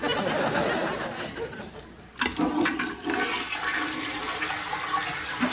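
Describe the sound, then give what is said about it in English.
A toilet flushes loudly, a broad rushing whoosh of water draining from the tank into the bowl that surges, briefly dips, then keeps gushing steadily to the end, with faint chuckling voices underneath. “We are ready to flush.”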